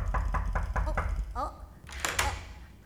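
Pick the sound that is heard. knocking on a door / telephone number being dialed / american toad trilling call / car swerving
knocking on a door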